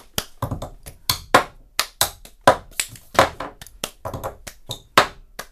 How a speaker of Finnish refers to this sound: talentti on siis se, että mä soitan teille purkkia. Tämä ei ole nyt ehkä ihan otollisin, tämä on tämmöinen uusio käytettävä kahvimuki. Katsotaan, pysyykö tämä hyppysissä, mutta se menee niin kuin näin.